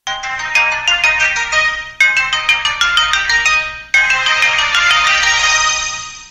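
A telephone ringtone for an incoming call from the phone company, AT&T Wireless Service, plays loudly and alone, a bright melodic electronic jingle repeating in three bursts of about two seconds each, with no voices.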